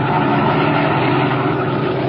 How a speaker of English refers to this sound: As our story continues today, we find him and his henchman Spike in their black sedan, slowing down along the road and searching for a likely place for what Dinelli has in mind.